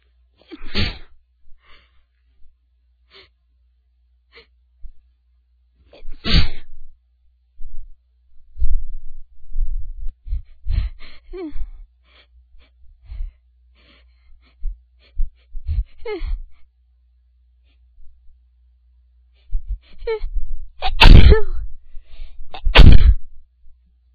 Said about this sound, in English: but all the pollen in the air and the maple blossoms are really tickling my nose. Oh, excuse me. Oh, I feel another sneeze.